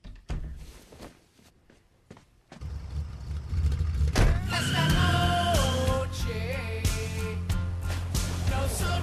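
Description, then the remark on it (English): A Taco Bell TV commercial's soundtrack: a few sharp thumps like car doors closing as a man gets into a car with his friends, then an engine starts and rumbles steadily, with a rising, wavering whine over it and no talking. “Here's last night's Taco Bell ad.”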